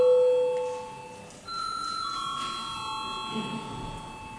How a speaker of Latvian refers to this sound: Lūdzu balsošanas režīmu. Lūdzu zvanu, lūdzu balsošanas režīmu.